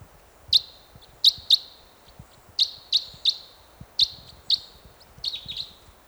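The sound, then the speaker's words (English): A bird perched in a tree above a net site chirps repeatedly, giving sharp, high-pitched calls in irregular pairs and singles, about nine in all, clear over a faint low rumble, ending in a quicker twittering flurry. “One bird perched in the tree above the net site now.”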